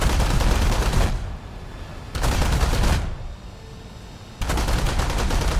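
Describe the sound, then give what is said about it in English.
A MiG-9's 23mm and 37mm aircraft cannons fire in the game War Thunder, in three sustained loud bursts, each a dense rapid string of heavy shots, separated by brief pauses filled with a lower rumbling background. “MiG-9 with 23 and 37mm cannons.”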